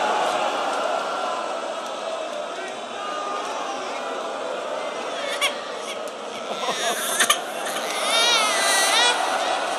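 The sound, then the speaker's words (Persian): A baby cries steadily, the wails rising and wavering toward the end, over a dense background murmur of voices that fills the whole stretch. “میخوای فقط با گریه بچه میخوای فقط گریه کنی؟”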